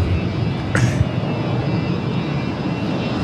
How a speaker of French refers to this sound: Ça y est, on a décollé. Alors, je sais pas pour vous, moi j'aime bien cette sensation quand l'avion met les gaz décollage